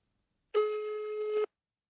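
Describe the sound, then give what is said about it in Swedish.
A single steady telephone ringback tone sounds for about a second, a clear mid-pitched electronic beep heard alone against silence, as a call to Postnord customer service waits to connect. “Om man vill veta hur man ska göra för att skicka blindskrift eller ha andra frågor om det, så kan man ringa Postnords kundtjänst.”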